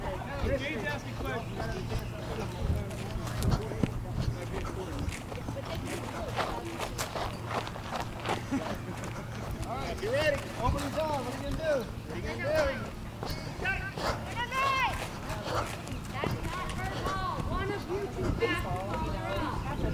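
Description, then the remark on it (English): Outdoor ambience of a girls' softball game of the Dunedin American Softball League on a diamond at Highlander Park: overlapping chatter and voices from players and spectators, with occasional sharp knocks and footsteps, steady and busy throughout. “Those are the sounds of the Dunedin American Softball League, girls softball.”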